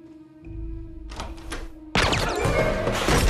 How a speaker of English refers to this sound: Yosef trains his gun on the door. The doctor moves cautiously across. On the nod from Yosef, he opens the door.